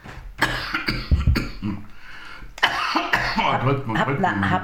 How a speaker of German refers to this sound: Ja, scheiß Husten.